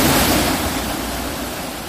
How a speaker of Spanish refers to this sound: Así suena el agua del río, el sonido es el mismo de siempre.